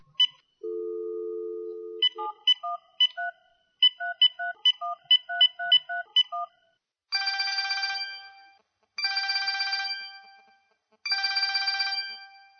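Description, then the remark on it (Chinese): A radio host phones a listener: a steady dial tone, then a quick series of electronic keypad beeps as a number is dialed, followed by three loud bursts of a trilling phone ring with pauses between them. No one speaks. “我现在要先打个电话给我们一位听众朋友”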